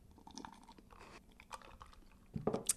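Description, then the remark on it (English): Someone takes a quiet sip of a ginger beer cocktail made with a very gingery ginger beer, a take on the Moscow Mule: soft wet mouth clicks and slurping, ending in a few louder swallowing sounds. No one speaks. “Well, let's have a sip of that.”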